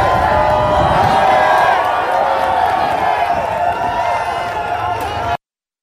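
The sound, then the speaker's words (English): A loud crowd at a construction site cheers and chants "USA" together as Donald Trump shows up, a dense, continuous roar of many voices, holding steady for about five seconds before cutting off abruptly. “where they were cheering and they were chanting”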